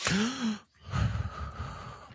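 A single sharp, voiced intake of breath, like a startled gasp from a person surprised by a question, fairly loud at the start, followed by a brief pause and soft, breathy murmuring.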